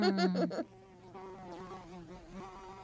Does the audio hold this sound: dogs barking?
no